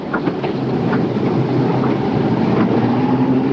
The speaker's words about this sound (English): Now a jeep leads a line of covered transport trucks away from the tent barracks.